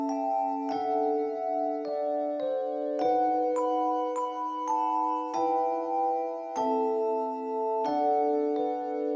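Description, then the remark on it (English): A very unusual set of handbells rings out a slow melody, each struck note chiming clearly and lingering into the next, with a steady succession of overlapping tones, fairly loud, with no talking. “And starting in the second verse, those bells were accompanied by the 300-voice London Philharmonic Chorus humming.”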